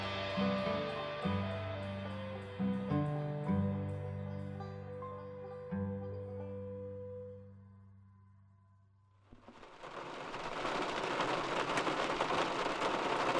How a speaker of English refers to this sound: On a soft, rainy morning earlier this spring,